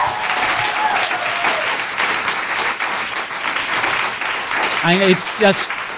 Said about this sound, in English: And these companies are Talo and V-Dog. And I'd like, yeah, if you want to applaud.